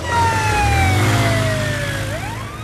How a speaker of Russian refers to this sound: И моя сирена звучит совсем не так, Алекс.